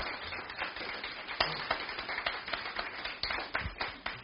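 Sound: audience cheering and applause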